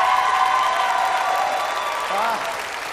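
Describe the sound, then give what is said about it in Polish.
A crowd applauds steadily, a dense wash of clapping that holds level before easing slightly toward the end, with a brief voice or cheer rising over it near the close. “Wielkie brawa, wielki aplauz.”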